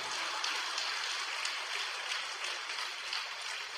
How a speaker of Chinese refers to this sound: 人家中到奖了，你们掌声都没有，稀里哗啦像毛毛雨一样的，对不对啊？啊，你们，哎呀，你们再鼓好了，人家又不会给你们的了。